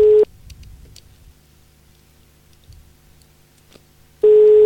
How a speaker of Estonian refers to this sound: Vähemalt telefon on tal olemas. Jah. Ja kutsub.